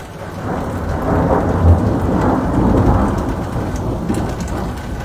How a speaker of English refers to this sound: Thunderstorms Thursday brought baseball-sized hail and at least one tornado, which touched down in Highlands Ranch south of Denver.